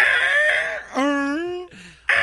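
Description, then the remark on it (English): A man's voice imitates Godzilla's roar: a loud, strained, screeching cry that jumps up in pitch, holds a wavering high tone, then breaks off into a rough final burst. “Let's hear your Godzilla impression.”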